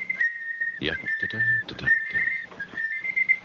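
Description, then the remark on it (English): A shrill, steady alarm-clock-like electronic tone sounds from a tape device, held high in pitch with short breaks, while several clunks and handling knocks interrupt it; the tone keeps going even after the tape has been ejected. “That sounds like an alarm clock.”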